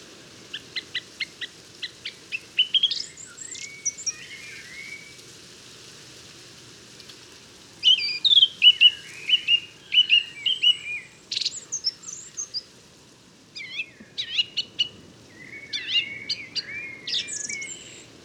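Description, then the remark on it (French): Sharp, high-pitched bird whistles in quick bursts of repeated notes, some rapid trills and sweeping phrases, ringing out clearly over a soft rain-like background hiss. “Voilà, c'est un sifflet beaucoup plus agressif, plus aigu et avec des notes répétées.”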